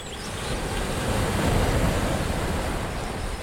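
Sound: ocean waves and surf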